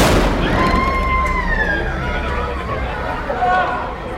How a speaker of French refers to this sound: La situation se tend, des feux d'artifice sont lancés par les habitants, la police réplique, elle, à coups de grenades assourdissantes.